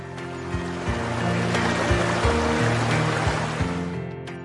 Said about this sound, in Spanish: Siente el agua en tus pies.